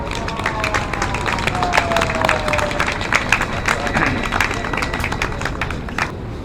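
A crowd at a rally applauds steadily, dense overlapping claps forming a continuous, fairly loud wash of noise, with a faint murmur of voices underneath and no single speaker standing out.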